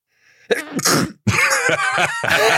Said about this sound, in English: Sorry, it might have sounded like I was pausing for drama there, but it was a sneeze.